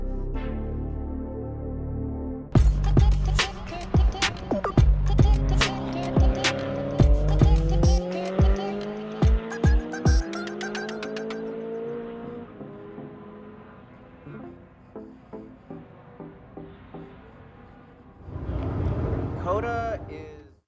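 Time attack race cars on track at a time attack event in North America: a loud engine screams up through its gears with sharp popping bangs, fades into a drone, then another car roars past near the end.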